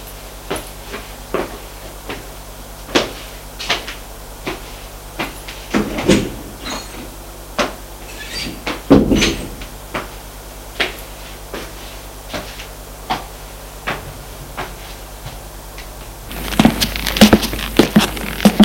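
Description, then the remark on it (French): A series of wooden clicks and knocks as someone puts papers into a drawer and slides it shut, then a door closing as they leave the room, followed by a rush of louder ambient noise at the end. “Met dans le tiroir et sort de la pièce.”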